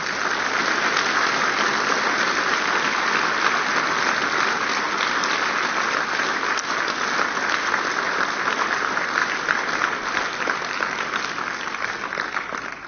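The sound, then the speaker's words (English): Steady audience applause at the close of a meeting session, given for the work presented. Many hands clap in a dense, crackling wash that holds at an even loudness for the whole stretch, with no voices rising above it. “If we could just clap hands for this work.”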